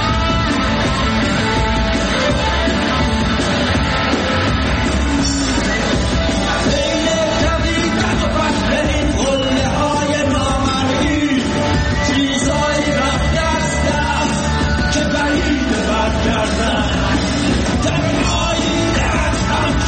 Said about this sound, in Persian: بریم یه بخشی از اجرای زنده شون رو بشنویم. این گیتار الکتریک رو فکر کنم همین که داره میاد صدا باری کرده بابا مو ایوال دارم.